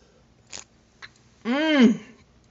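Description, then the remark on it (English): Two quick, soft slurping sips of hot coffee from a cup, followed by a drawn-out, satisfied vocal sigh with a rising then falling pitch. “Girl, but if it ain't coffee for you and it might be tea, no matter what it is, like I said before, let's raise it right now and take our first sip together.”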